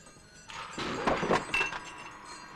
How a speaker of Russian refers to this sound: Манукян осторожно заходит в темную квартиру. За ним захлопывается дверь.